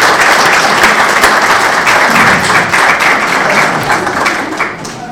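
Sustained audience applause, a dense wash of many hands clapping steadily at a loud, even level, easing off slightly toward the end, with no one speaking.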